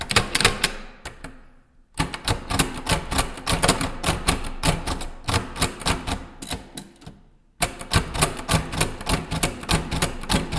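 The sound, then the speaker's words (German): A braille typewriter clacks away as someone writes with it, its keys striking in quick, steady mechanical bursts, broken by two short pauses, with no one speaking. “So klingt es, wenn ich mit meiner blinden Schreibmaschine schreibe.”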